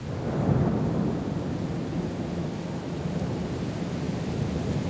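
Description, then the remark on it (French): A thunderstorm rumbles steadily, deep rolling thunder swelling early and then sustaining a continuous low roar with rain hiss, loud and enveloping, with no voices present. “C'est curieux que la première définition de la philosophie ait été l'étonnement, qui est le bruit de l'orage lui-même.”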